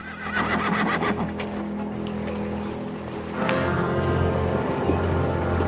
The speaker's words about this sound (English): The brothers enter the barn and move into the shadows at the sound of a horse approaching.